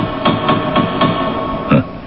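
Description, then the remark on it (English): Knocking on the gates of heaven, kept by St. Peter: four evenly spaced, solid thuds in quick succession, a short pause, then one final, louder knock. No one speaks. “May I knock, Mr.”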